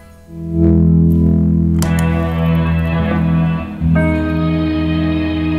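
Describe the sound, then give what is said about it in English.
A thick, sustained electronic tone swells in loudly, then turns harsh and buzzy with a distortion-like, effects-laden texture and a significant volume jump, briefly dipping before surging back at full volume. No one speaks. “it like has all these amazing crazy sounds that aren't exactly just your run-of-the-mill distortion”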